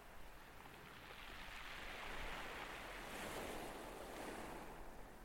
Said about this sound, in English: The waves you can hear, they're not just in your head. They were recorded on the beach at Deal, in the sunshine, on the afternoon, at high tide, on July 1st, 2021.